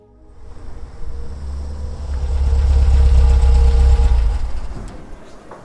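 A car engine idles with a steady low rumble, swelling gradually louder toward the middle before easing off slightly at the end. No one speaks over it.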